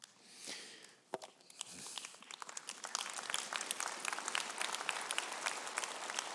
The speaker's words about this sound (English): Now, I don't know why you're clapping for that. That's a hard word.